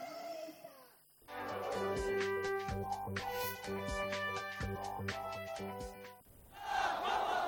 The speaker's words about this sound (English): Crowds of Yemeni protesters rallied in the streets of the capital Sana'a, reaffirming their staunch support for Palestinians against the Israeli occupying enemy.